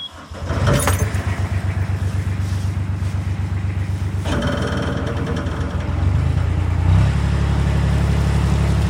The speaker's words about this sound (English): Well, let's get the Endeavour underway. Right. I'll start the engine and we'll head west.